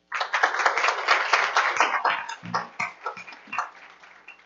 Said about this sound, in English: So we would welcome him this morning with a round of applause.